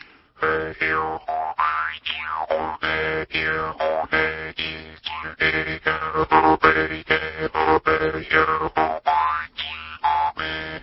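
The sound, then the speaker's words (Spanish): A jaw harp (maranzana), a small instrument with a reed held against the teeth, the mouth cavity serving as its resonating chamber, twangs in a steady rhythmic pattern, its buzzing drone shaped into sweeping, wah-like overtone glides that rise and fall repeatedly. No voices, just the plucked metallic reed throughout. “Esto es una cosita con una lengüeta, te la apoyas en los dientes, vibra y la oquedad de la boca sirve como caja de resonancia.”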